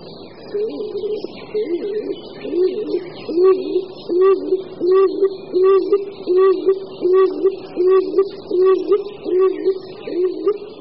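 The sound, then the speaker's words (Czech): A stock dove, a forest-dwelling pigeon, coos in a monotonous, repeated series of low hollow notes, steady and rhythmic, each coo about a second apart with no other sounds. “Ptačí hlasy houkání doprovázející ukazují na druh žijící v lese, na holuba doupňáka.”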